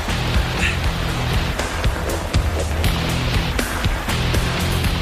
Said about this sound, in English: Oh, I hear water. There you go.